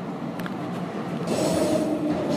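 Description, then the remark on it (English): A moving train rumbles steadily with broad, continuous rail noise, growing louder and brighter partway through as a hissing, rushing wash joins the low roar. No voices are heard. “train's moving.”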